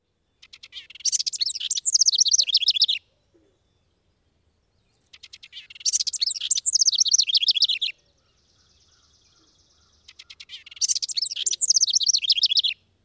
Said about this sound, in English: As you continue on the trail, listen for the bubbling song of a house wren.